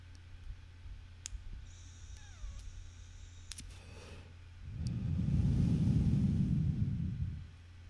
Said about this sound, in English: turning on my vape pen right now. There we go.